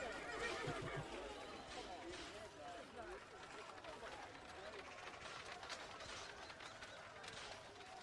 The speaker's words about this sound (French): Là, c'est un cochon qui se fait égorger qu'on entend.